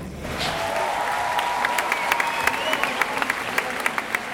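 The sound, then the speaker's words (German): A large audience in Uruguay breaks into sustained, thunderous applause for Angela Davis's words on racism, a steady roar of clapping with sharper individual claps standing out and a faint whistle or cheer rising within it. “Für diese Worte hätte es vor ein paar Jahren in Uruguay wahrscheinlich noch keinen derart tosenden Beifall gegeben.”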